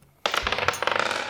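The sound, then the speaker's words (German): Dice are rolled to decide who has to go, clattering and tumbling across a hard tabletop in a quick burst of sharp rattling clicks, fairly loud, settling over about a second with no voices. “Komm, wir würfeln mal los, wer jetzt muss.”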